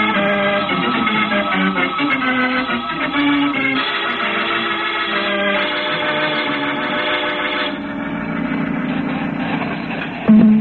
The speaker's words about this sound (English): Come in, Polaris. Tom, come in. It's no use, Captain Strong. We can't get through that static.